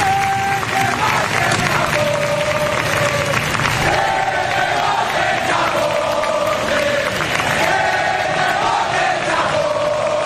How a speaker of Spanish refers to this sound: Primero hubo aplausos al rey justo en el momento en el que se bajaba de su Rolls Royce